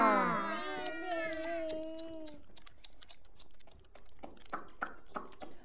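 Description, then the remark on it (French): A voice imitates a crying baby with a loud, wavering wail lasting about two seconds, followed by a run of light, irregular clicking and tapping sounds. “Quand Fanny était un bébé, elle faisait comme ça.”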